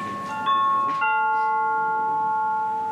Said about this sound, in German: Bis im Wartezimmer dieses erlösende Läuten ertönt, vergehen Ewigkeiten. Es ist zu hören, wenn die Nummer des sogenannten Terminkunden auf einem Bildschirm erscheint.